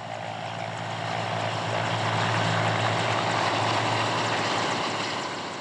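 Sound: helicopter flying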